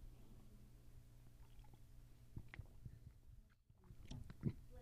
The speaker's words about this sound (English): So, excuse me while I have some water to begin with.